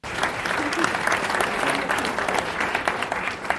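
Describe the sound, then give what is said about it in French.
A steady burst of applause from an audience of a few hundred people at the official inauguration of the INDEX cultural and research centre in Lviv, Ukraine, dense and even throughout, with many hands clapping at once and no pause in the sound. “Sous les applaudissements”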